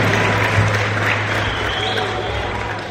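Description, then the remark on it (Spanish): An audience at a futsal federation event applauds steadily and fairly loudly throughout, a dense wash of many hands clapping at once, with a faint low hum and some indistinct voices mixed in. “Así que para ambos un fuerte aplauso en representación de la Academia Futsal FIFA Filadelfia.”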